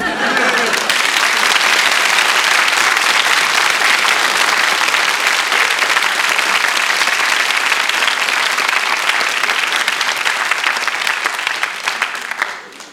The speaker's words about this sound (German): Ich möchte euch bitten, nicht zu laut zu klatschen an meinem Kopf.